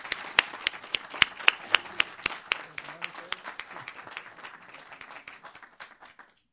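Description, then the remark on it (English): Audience applause for the artists of a competition, with a mix of sharp individual claps over a dense patter of hands, sustained for several seconds before tapering off and stopping, with faint crowd voices underneath. “Well, but one more great round of applause for these wonderful artists.”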